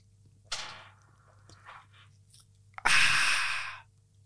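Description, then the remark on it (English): Someone takes a quick sip of a drink, with a few soft mouth and swallowing sounds, then lets out a loud, breathy exhale of satisfaction. No talking. “But first, I'm just going to have a little sippy sip.”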